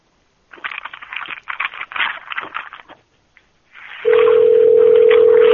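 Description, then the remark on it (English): Scattered rustling and clicking noises fade out, then a loud, steady dial tone from a Skype call to a phone begins and holds without a break until the end. “Thank you, Skype, for confusing my day. Here we go. View and then call phones.”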